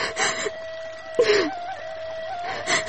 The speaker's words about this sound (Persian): گریه نکو، کسی خواد دیدید خواد گفت که چرا گریه میکنه.